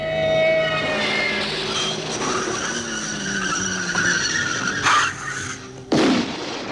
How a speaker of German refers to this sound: Dann raste er mit seinem Porsche in einen anderen Wagen und starb auf dem Weg ins Krankenhaus.